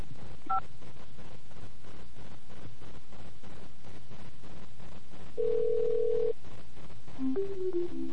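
A single short touch-tone keypad beep for the number 5, pressed in a hotel line's automated phone menu to find a hotel phone number, sounds near the start, later followed by a longer steady tone and a few quick rising notes over a faint hiss.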